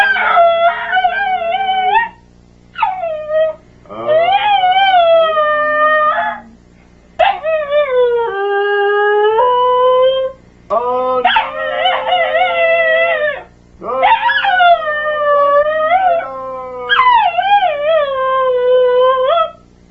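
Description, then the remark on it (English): A dog, Anubis, howls in a series of long, wavering, high-pitched cries, breaking into yips and whines between them, loud, with short pauses between bursts and no talking. “Hello from me and Anubis, the Wonder Dog.”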